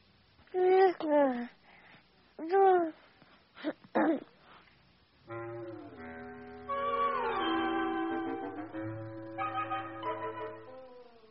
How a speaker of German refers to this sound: Und wen hören Sie jetzt? Ich höre ein Baby.